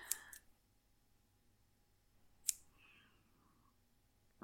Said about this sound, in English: No, I don't want you to cramp up and get a hamstring or anything while you're tied up like this, so I'm just going to take these scissors and free your thighs and calves from each other.